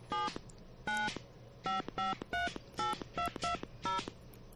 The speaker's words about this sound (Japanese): 被災地の方はご自宅の電話番号、または連絡を取りたい被災地の方の電話番号を市外局番からダイヤルしてください。 はい、じゃあハニー FM の番号を入れてみましょう。